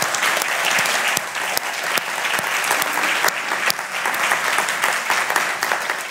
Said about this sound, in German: Und wir wollen euch mal dickes Danke sagen, mal einen Applaus für unsere Handicapler. Schön, dass ihr in der Gemeinde seid.